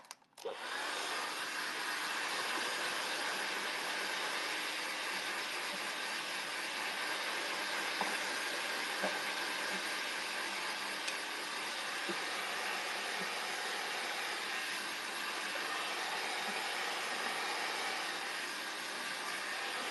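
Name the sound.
hair dryer blowing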